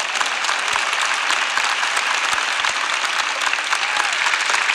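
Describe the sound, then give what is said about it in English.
Steady audience applause fills the whole stretch, a dense wash of many hands clapping at an even, fairly loud level with no voices rising above it. “Come on, clap if I'm right.”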